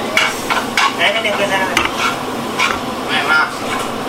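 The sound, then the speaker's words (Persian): An ingredient is added to a sauce bubbling in a pot on the heat, with a steady sizzle and repeated scraping, stirring sounds against the pot for a few seconds. “حالا یه چیزی اینجا هست، من باید سوس رو میریختم رو این، ولی چون که تو قابلمه میخوام درستش رو کنم اینو به سوس اضافه میکنم.”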